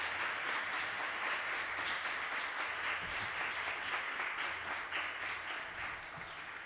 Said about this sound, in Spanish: Y hoy que estoy aquí, me voy a permitir el lujo de decirle a la gente que te aplauda. Un aplauso, por favor. Gracias.